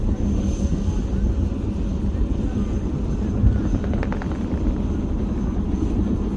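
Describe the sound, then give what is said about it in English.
A loud, steady rotor roar dominates throughout, a dense low rumble of helicopters carrying soldiers powering up and taking off, kicking up a thick cloud of dust, with no pauses or breaks in the noise. “Taking off, the choppers kick up a thick cloud of dust.”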